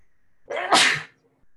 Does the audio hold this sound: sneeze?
yes